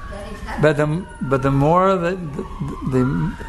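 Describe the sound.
Emergency vehicle sirens wail steadily from outside, a rising tone running beneath a person speaking in bursts.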